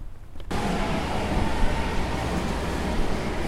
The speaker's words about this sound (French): On est où là? Dans le métro déjà? Là on va prendre le métro